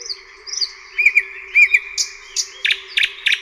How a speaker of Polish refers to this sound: No i dlatego przede wszystkim śpiewają w nocy. Na nieszczęście mało osób potrafi odróżnić tego słowika. Oczywiście znamy słowika z literatury. Tak naprawdę bardzo mało osób odróżnia głos słowika.